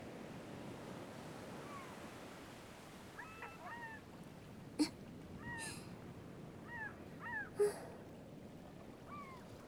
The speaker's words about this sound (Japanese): あ、でも。海猫の鳴き声が好きなのはひょっとしたら私だけかも。